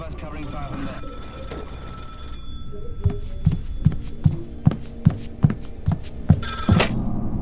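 A telephone bell rings in a sustained burst, then a steady series of dull thumps pulses beneath it before the ringing briefly starts again at the end.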